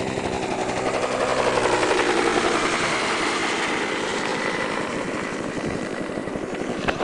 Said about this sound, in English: Time out for an airplane. That's one of the many, many Huey helicopters around here. Here comes another one.